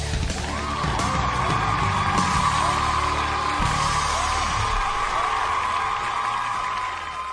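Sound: audience applause and cheering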